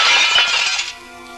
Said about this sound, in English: All right, you smashed the mirror